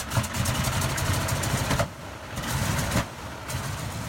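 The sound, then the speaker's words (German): A piston aircraft engine of a vintage Boeing 247 propeller airliner runs steadily with a low, rumbling drone and uneven throbbing, briefly easing off twice before picking back up. No voices. “Die B-247 ist heute ein liebenswerter Flugzeug-Oldtimer.”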